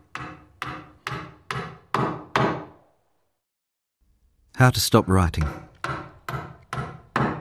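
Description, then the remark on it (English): Six sharp, evenly spaced hammer blows strike wood in a steady rhythm, each ringing briefly, as a next-door neighbour builds a garage. After a short pause a person speaks while similar knocks continue faintly beneath the voice. “While I study a book on deconstruction, my next-door neighbour constructs a garage, hammer blow by hammer blow.”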